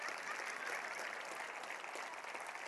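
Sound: audience applause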